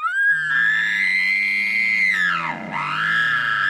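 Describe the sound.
An imitated bull elk bugle, made to call to elk: a loud, sustained high whistling tone over a low raspy drone, dipping sharply in pitch near the end before climbing back up. No one speaks.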